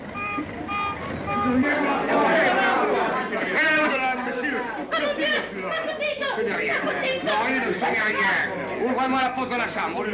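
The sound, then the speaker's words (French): A crowd of curious onlookers following along chatters all at once, many overlapping voices forming a steady, lively hubbub with occasional chuckles rising above the babble. “Une foule de curieux les suit.”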